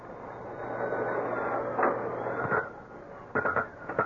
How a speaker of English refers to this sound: Business was not brisk at Toby Tintry's tattoo workshop, but Toby, artist to his fingertips, was putting in a little practice. With a very fine drill, he was tattooing a large pink garlic sausage.